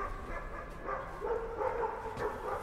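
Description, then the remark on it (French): A white dog on a town square barks a few times in short bursts, fairly quiet, over a steady outdoor background hum. “Donc, bah, ici, sur cette place, je suis connu comme le chien blanc qui aboie derrière moi, là.”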